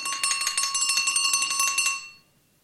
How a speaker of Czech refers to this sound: Nic? Neslyší? Ten zvonek taky nemá žádný hlas. Zase nic.